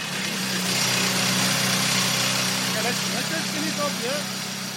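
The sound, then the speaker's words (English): A rock drill more than a metre long roars continuously as it bores holes into stone in a working mine to plant blasting charges, a loud, steady mechanical din, with faint voices murmuring underneath toward the end. “a gentleman turned up with the most incredible drill, more than a metre long, and he began to make holes so he could plant charges to blast out more ore for processing.”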